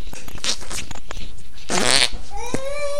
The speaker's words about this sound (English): Man, you farted. You keep farting.